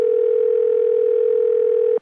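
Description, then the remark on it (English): A steady, unbroken satellite phone dial tone hums loudly for about two seconds as a call is placed, then cuts off abruptly with a sharp click as the line connects. “They used it now to call their benefactor.”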